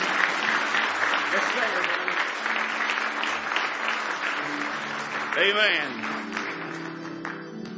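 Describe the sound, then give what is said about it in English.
An audience claps steadily in a loud, dense wash of applause as a hand clap of praise to Jesus, with voices and a rising vocal cry mixed in under the clapping throughout. “Give Jesus one more hand clap of praise this morning.”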